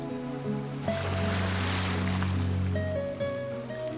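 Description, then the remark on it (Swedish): Ocean waves surge in with one broad, hissing wash that swells and then recedes, set against a steady low humming tone, with no voices present. “Jag vill bli en sån som aldrig glömmer att det är jag själv som bestämmer ifall jag vill sitta här och blunda och lyssna på havet.”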